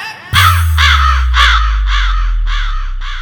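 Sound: crow cawing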